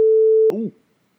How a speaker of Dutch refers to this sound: dat laatste piep ik... Hey, die piep die je net hoorde, dat was een spoiler die ik eruit heb geknipt.